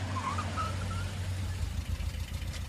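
A car's engine hums steadily at a low, even pitch, continuous, with faint higher whines drifting above it.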